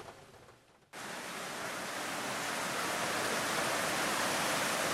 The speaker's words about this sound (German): Nach mehreren Tagen Dauerregen ist die Lage ernst. Der Fluss Estelí hat sich in einen reißenden Strom verwandelt, ist über die Ufer getreten. Ganze Straßenzüge samt Häusern stehen unter Wasser.